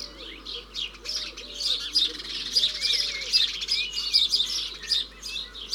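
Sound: house sparrow chirping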